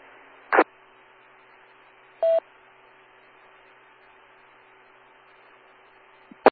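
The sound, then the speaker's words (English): Radio repeater ID tones: a single brief, steady mid-pitched electronic beep rises over a constant band of radio hiss, with sharp squelch clicks near the start and at the end. No one speaks. “I heard the ID go by.”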